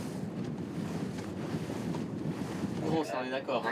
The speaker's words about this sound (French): Le petit bateau de Philippe Hophoff promène généralement des touristes dans des endroits plus bucoliques. Cette fois-ci, il se glisse sous ces monstres des mers